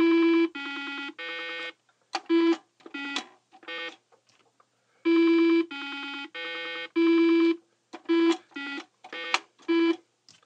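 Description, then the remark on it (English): Bright, buzzy electronic square-wave tones from a Simon memory game, a frisbee-shaped toy with four light-up red, blue, green and yellow buttons, play a sequence to be remembered: a few long sustained notes followed by quick staccato beeps, the pattern repeating twice with a short pause between. “And it made these kind of square wave tones that were really distinctive. It would play a sequence, you'd have to remember it, and play it back.”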